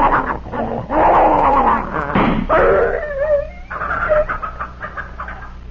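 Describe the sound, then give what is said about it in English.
A poisoned dog, held down and trying to bite, snarls and yelps in pain, loud, with a run of sharp, strained cries and whimpering howls that rise and fall for several seconds without pause. “he was in such pain he'd have bitten both of us. Poor Tiger.”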